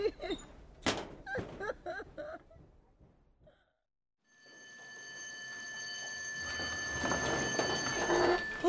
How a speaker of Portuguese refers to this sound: Estava mesmo a precisar de ouvir a campainha tocar. Finalmente o intervalo,